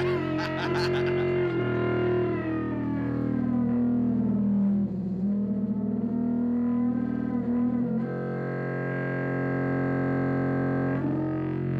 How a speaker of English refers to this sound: Yeah, so I guess it's almost like a primitive kind of distortion kind of vibe there.